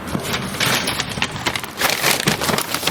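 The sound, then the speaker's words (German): Crinkly, crackling rustle of a paper-and-plastic meal kit bag, a cooking kit for a chickpea-coconut dish with mint, peanuts and long-grain rice, being ripped open, a dense bright tearing noise lasting a few seconds with uneven bursts and no voices. “Tüte aufgeruppt.”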